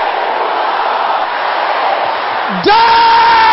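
A large crowd roars and shouts together in response to a call to shout "Every power that hates my happiness", a dense, sustained wall of loud voices, before one voice breaks into a high, drawn-out yell at the end.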